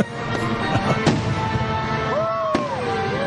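Fireworks bursting at a 4th of July celebration: a few sharp, loud bangs at irregular intervals over a dense crackling background, with a rising and falling whistle of a rocket near the end.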